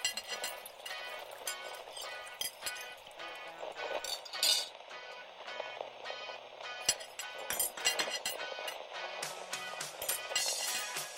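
Cutlery clinks and scrapes against plates in a steady, irregular stream of bright metallic taps, moderately loud and continuous throughout, with no voices, during a 9 p.m. dinner of preserved meat with corn and canned peas.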